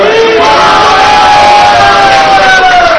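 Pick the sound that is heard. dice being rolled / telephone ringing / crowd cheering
crowd cheering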